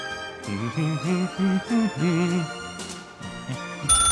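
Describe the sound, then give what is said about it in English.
A phone rings with a melodic electronic ringtone, a short tune of bright repeated notes played clearly, ending with a sudden burst of noise. “Oh, hold on, we got a phone call.”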